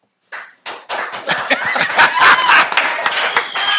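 A group bursts into applause after a short clap or two, quickly swelling into loud, dense, steady clapping, with some laughter and cheering mixed in.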